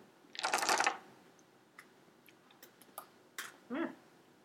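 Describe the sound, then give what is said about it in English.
A brief rattling burst like small dice shaken in a hand, followed by a scatter of light, sharp clicks as they tumble and settle on a hard surface, fairly quiet; tiny dice rolled for a willpower check at difficulty 8 in a tabletop role-playing game. “Roll current willpower difficulty 8.”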